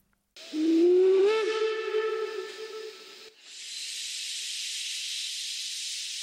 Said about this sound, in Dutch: Toen de trein het kleine station verliet